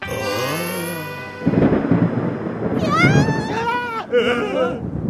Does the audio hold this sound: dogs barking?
no